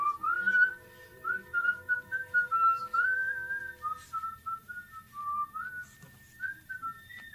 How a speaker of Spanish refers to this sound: Iba contento, hasta iba chiflando una canción.